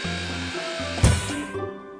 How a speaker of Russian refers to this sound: На причал заезжает автокран. Кран опускает опоры.